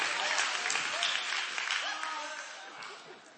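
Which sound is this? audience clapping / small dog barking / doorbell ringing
audience clapping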